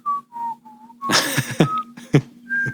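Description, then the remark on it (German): Someone whistles a few short, idle notes at a steady mid pitch, trying to look inconspicuous, broken up by brief breathy, noisy bursts between the tones. No one speaks. “Bei einem man ist kann das auch pfeifen, peinlich, wenn der dass guckt.”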